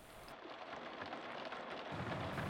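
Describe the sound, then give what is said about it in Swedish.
Steady rain pattering against a car windshield during a drive along the E803 motorway, a dense, even drumming of drops with a low rumbling background, fairly loud throughout. “Under färden hörde jag smattret av regn på rutan.”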